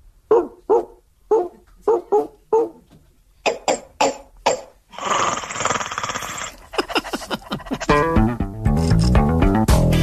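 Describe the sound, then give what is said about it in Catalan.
A man imitates a dog, barking in a quick series of about nine short, sharp yelps over five seconds, followed by a burst of hissing noise and then louder, tonal sounds. “No, home, el gos aquell era un gos.”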